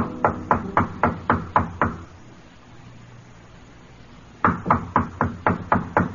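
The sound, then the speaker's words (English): Knocking on the door of hotel room 617 in a dim-lit hotel corridor: a quick series of about seven sharp raps, a pause of quiet room tone, then another run of six or seven knocks, fairly loud. “The dignified man in the pinstripe suit stops before room 617, casts a quick glance back along the corridor, then knocks on the door.”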